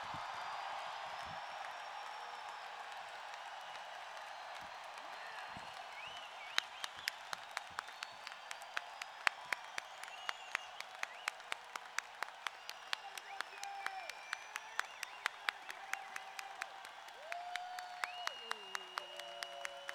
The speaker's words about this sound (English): Let's hear it for the man who has given all of us so much for the last 26 years. A standing ovation and a rousing cheer for Bill Graham. Let him hear it.